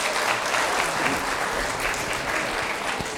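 A crowd claps steadily in a sustained round of applause, a dense, even wash of many hands with no voices breaking through.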